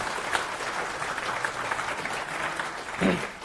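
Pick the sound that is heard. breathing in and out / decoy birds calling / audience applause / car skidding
audience applause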